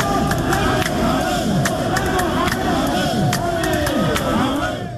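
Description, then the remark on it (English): A loud, dense crowd of National Council members of the Ghana National Association of Teachers (NAT) shouts and jeers continuously, preventing Deputy Education Minister Professor Kingsley Nyako from delivering a speech as they demand laptops for teachers; many voices overlap in an angry uproar, with occasional sharp claps or bangs cutting through. “The sounds of National Council members of the Ghana National Association of Teachers, NAT, preventing Deputy Education Minister Professor Kingsley Nyako from delivering a speech as they demand full distribution of laptops to the over 50,000 teachers”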